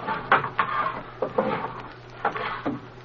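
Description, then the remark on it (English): Several wooden drawers slide and bump shut in a quick, uneven series of knocks and scrapes, moderately loud, with a low steady hum underneath and no talking. “Now push those drawers back and let's arrange everything the way it was.”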